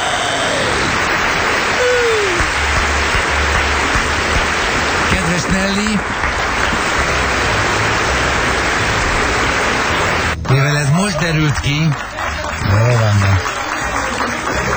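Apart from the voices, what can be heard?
audience applause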